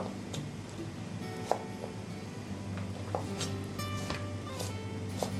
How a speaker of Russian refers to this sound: Тоже кубик. Все кубиком нарезаем. Только какие-то продукты кубик покрупнее, какие-то помельче. Допустим, морковь готовится дольше, чем картофель, поэтому мы кубик делаем помельче.